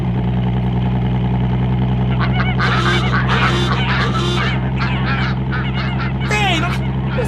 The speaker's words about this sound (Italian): Erano oche!